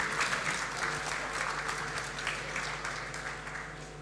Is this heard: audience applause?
yes